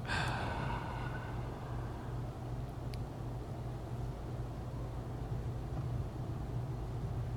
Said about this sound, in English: It's kind of ruined by the thumping bass downstairs. It is, and the what's happening? The grinding noise of it sounds like a bachelorette party is happening downstairs.